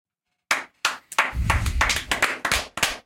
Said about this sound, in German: Gibt's nur verhaltenen Applaus von Bruchhagen und Co.